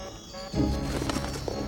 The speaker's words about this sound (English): Oh, you heard a flutter of bird wings?